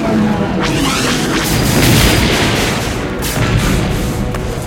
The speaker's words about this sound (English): The tangled legs of the Imperial walker attempt to step, but as they do, the enormous machine begins to topple. It teeters for a moment, and then crashes to the ground, sending snow, ice, and metal pieces flying.